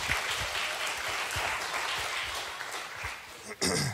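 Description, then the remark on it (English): A crowd applauds steadily with dense overlapping claps and some cheering as a pastor is invited up to speak, sustained for several seconds before a louder burst near the end. “Warmed up the crowd for me.”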